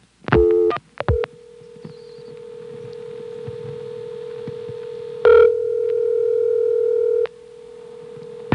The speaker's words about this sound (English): And here's what you got if you picked up the phone and dialed 1. Notice this is a different recording than the one we heard before.